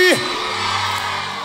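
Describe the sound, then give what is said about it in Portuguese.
A concert crowd erupts in loud shouting and cheering after the singer asks who wants him to take off his clothes, a dense wall of yells and whoops that swells quickly and holds steady throughout. “Quem quer que eu tire a roupa, dá um grito aí.”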